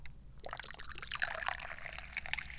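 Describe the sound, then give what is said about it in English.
Tea pours steadily into a cup in one continuous stream with a bright, splashing trickle, starting after a brief quiet moment, fairly soft, with no talking. “Of course, that gives me a lot of deep responsibilities, like pouring the tea.”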